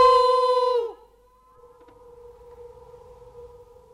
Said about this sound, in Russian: А чего это оно откликается? Не знаю. Говорят, это звук отражается.